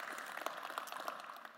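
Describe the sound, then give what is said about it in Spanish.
A church crowd claps steadily in a dense, continuous patter of many hands, applauding the Lord. The clapping is fairly quiet, with a few sharper claps popping out and no voices over it. “Si su vida tiene esperanza, regálale un fuerte aplauso al Señor porque estamos vivos por su gracia y por su misericordia.”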